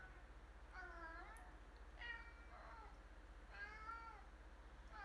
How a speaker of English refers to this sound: Here he comes. Poor kitty.